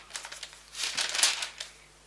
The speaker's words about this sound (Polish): Karty szeleszczą. Nie jest to dźwięk stworzony w komputerze, ja tylko powiem wszystkim tym, którzy mają elektroniczne książki.